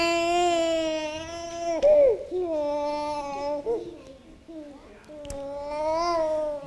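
An infant fusses and cries in long, wavering, high-pitched wails, broken by short gasps and whimpers, with a brief click partway through, after being woken from sleep with water at a baptism.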